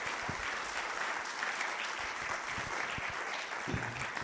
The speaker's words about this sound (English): Thanks, everybody. How about a round of applause for all of our families that participated?